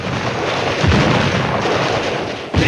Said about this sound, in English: The Germans duck, and the gunner fires on the Americans.